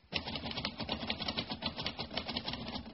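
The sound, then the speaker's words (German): Rapid, continuous typewriter clatter with dense mechanical key strikes tapping at a steady, busy rhythm, fairly loud and unaccompanied by any voices. “Was haben Sie denn noch zu tippen”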